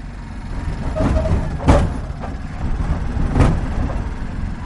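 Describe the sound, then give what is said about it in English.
A tuk tuk driven by Alan Bungie drones steadily while its body rattles and clanks, with two sharp jolts standing out as it bumps over a bumpy stretch of tarmac. “Bungie's Tuk Tuk rattles over a bumpy stretch of tarmac.”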